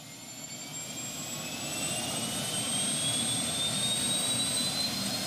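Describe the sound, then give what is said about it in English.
A helicopter carrying an aerial mapping photo crew flies at 60 miles an hour, 300 feet over the eastern Aleutian Islands. Its turbine engine roars steadily, a high whine slowly climbing in pitch over dense, rumbling rotor and engine noise that grows slightly louder. No voices. “Imagine looking out a helicopter window taking pictures as you're traveling 60 miles an hour and you're only 300 feet over the eastern Aleutian Islands.”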